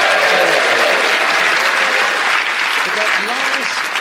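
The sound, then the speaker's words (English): Steady, loud audience applause on a comedy panel show for a contestant who came second with 18 points: a dense wash of many hands clapping that holds evenly for the full four seconds, with a faint voice briefly rising beneath it near the end. “So I think we'll give you a round of applause for coming there.”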